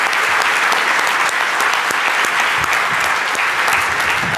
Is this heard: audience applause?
yes